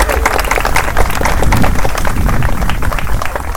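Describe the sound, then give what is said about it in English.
An audience applauds the event's sponsors steadily, a dense, loud wash of many hands clapping at once that holds evenly for a few seconds, with a low rumble underneath and no voices. “A big round of applause for all of our wonderful sponsors.”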